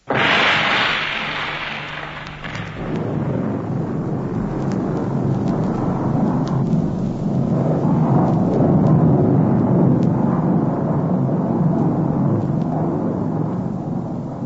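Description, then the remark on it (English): A sharp, loud blast bursts out, an explosion set off for artificial avalanche release, then gives way to a long, heavy roaring rumble of hundreds of tons of ice and snow crashing down. It stays loud and continuous to the end, with no voices. “An explosion, followed by the crashing of hundreds of tons of ice and snow.”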